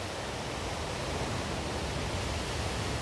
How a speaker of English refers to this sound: And we listen. Listen outwardly, right? You can hear the waves. It's unglorious, right?